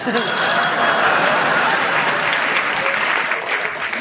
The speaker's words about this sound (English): I think also of the strength of the applause.